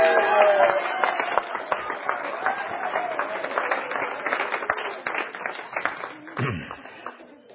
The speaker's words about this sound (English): And the crowd breaks out in applause.